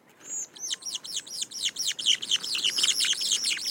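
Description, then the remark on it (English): A mated pair of birds sing a duet, a rapid, steady stream of bright, arching whistled notes overlapping each other, fairly loud, with no voices. “And most endearingly is they have duets. They perform these duets all year round.”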